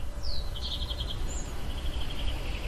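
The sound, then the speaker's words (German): Birds chirp on a terrace in quick, high bursts against a steady outdoor hum, with other sounds in the distance; a few short calls and a trailing twitter, soft, with no one talking. “Für mich sind zum Beispiel gerade die Geräusche sehr präsent, da ich gerade auf der Terrasse sitze und die Vögel zwitschern und in der Ferne andere Geräusche zu hören sind.”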